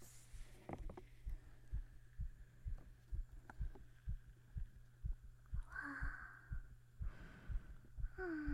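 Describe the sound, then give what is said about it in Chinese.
A fast, steady heartbeat thumps low and muffled, as if heard through a stethoscope, over a constant faint hum. A voice briefly exclaims partway through. “听听你的心跳了，学徒大人来听你的心跳了。”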